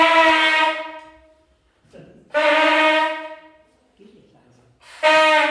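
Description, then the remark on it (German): A night watchman's signal horn sounds three loud, sustained blasts with a rich, brassy mid-pitched tone as a test alarm. Each blast swells then fades, with short quiet gaps between, and the third is cut off. “Der hat eine Öllampe dabei und ein Signalhorn.”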